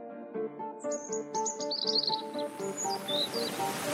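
A cuckoo calls in steady repeated low notes, with higher chirping and twittering birdsong layered above, continuous throughout, no voices.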